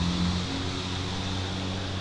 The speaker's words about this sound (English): A very loud truck drives by on the street on the other side.